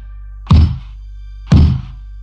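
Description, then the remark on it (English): Two heavy knocks on a freestanding wooden door standing in the middle of a forest, heard from a few feet away, spaced about a second apart, each a dull, low thud that fades quickly over a steady low hum. “What I heard matched what I saw, knocking on a door from only a few feet away.”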